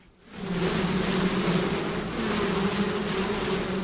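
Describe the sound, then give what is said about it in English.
A dense, steady drone of many honey bees buzzing around a hive during a hive check on a hot, overcast day, continuous after a quick swell at the start, with a faint hiss of stiff breeze underneath and no talking. “It wasn't the best day to check on bees.”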